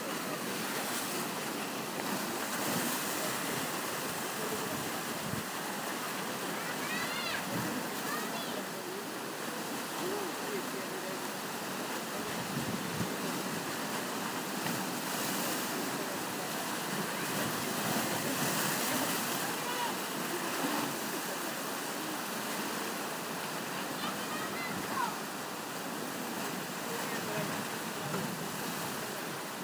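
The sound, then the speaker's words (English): Sea waves crash and wash against three very high rocks holding an iron sculpture by Eduardo Chillida, in a continuous, broad roar, with surges swelling and receding over steady wind noise, fairly loud throughout. “It's an iron sculpture put in a three very, very high rocks out in the sea.”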